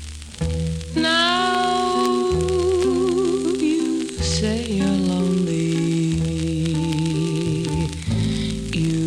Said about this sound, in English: Wound up the 78 RPM machine right now.